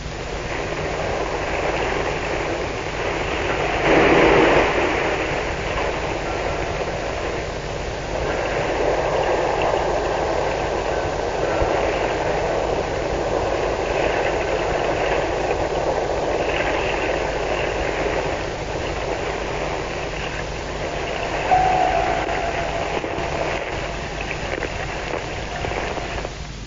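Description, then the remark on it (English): A steady underwater rush of escaping air, recorded by a sonobuoy dropped from a plane: a broad hissing, bubbling roar that swells into a louder burst early on, then continues evenly with a brief whistling streak near the end. “Now, note the sound as of escaping air.”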